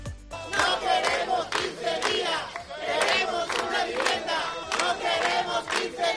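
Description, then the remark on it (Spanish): A crowd of neighbours in Aljucer, Murcia, shouts together in protest in the morning after learning that a neighbour faces eviction; loud rhythmic chanting bursts repeat steadily, voices rising and falling in unison with barely any pause between cries. “Estos son los gritos que se han escuchado esta mañana en Aljucer tras conocer que una vecina tendrá 15 días para encontrar una casa para sus dos hijos o será desahuciada.”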